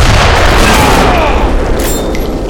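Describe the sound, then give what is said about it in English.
A loud bomb burst explodes against a person's raised golden metal wristbands in a courtyard, a deep booming rumble that fills the whole stretch, heavy low-end roar and crackling debris, no voices. “A bomb burst exploded against his upraised wristbands.”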